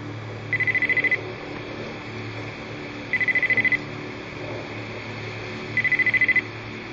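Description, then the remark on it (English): A telephone rings three times in the film 88 Minutes, each ring a rapid trilling burst with a pause between, over a low, steady background rumble. No one speaks. “Al Pacino is a professor of forensic psychology, and one day he gets a phone call from someone telling him he has only 88 minutes to live.”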